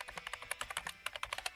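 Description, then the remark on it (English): Rapid typing on a PC keyboard: a quick, slightly uneven stream of crisp key clicks, about a dozen in under two seconds, with no voices. “Yeah, it was always back on the computer.”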